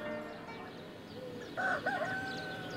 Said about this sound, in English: And then the rooster crowed